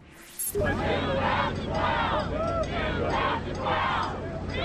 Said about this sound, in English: those are Alaska crowds cheering Governor Sarah Palin's homecoming